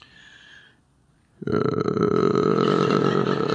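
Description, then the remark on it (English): A person imitates a lion's growl, illustrating the Hebrew word 'hega', with a single loud, rough, sustained vocal roar that starts abruptly after a short faint tone and a pause, holding steady for about two seconds. “I had one moment to do the lion impression and I screwed it up publicly, all right?”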